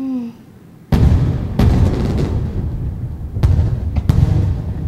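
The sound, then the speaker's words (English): Fireworks explode in a loud series of booms, with four sharp bursts spaced a second or two apart over a continuous rumbling crackle. “Well, the fireworks won't give us enough light to get out of here.”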